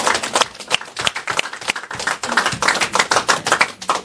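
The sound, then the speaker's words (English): A crowd claps together as a clap offering in a dense, sustained burst of many overlapping hand claps, loud and steady with a slight rhythmic pulse, and no voices over it. “a clap offering.”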